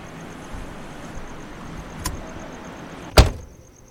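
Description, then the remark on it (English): Someone settles into a car's passenger seat amid faint rustling and a small click, then a car door shuts with a single loud thud that quickly fades into quiet. “Now, no one will disturb us. Get in the car. All right? Buckle up.”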